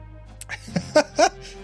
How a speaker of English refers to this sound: That was actually a fake cough there. It was almost like a passive yawn.